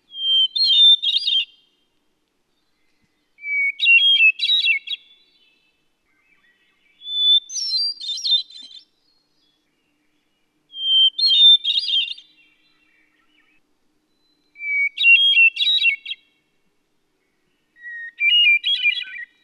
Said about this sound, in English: There's some other lovely songsters in the same family, and one is the hermit thrush. Listen to its mournful, flute-like song. We often hear it when we're picking blueberries in the woods in the late summer.